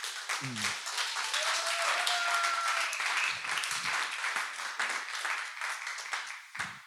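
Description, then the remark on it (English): A crowd claps steadily for Lamont as he is invited up to say hello, several seconds of dense, loud applause with a few brief whistles and cheers rising above it before it tapers slightly at the end. “Y'all better clap real hard for Lamont.”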